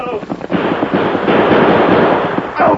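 In a radio drama, a rapid, loud volley of gunshots crackles and overlaps in a dense barrage for a few seconds, with voices briefly audible beneath the firing.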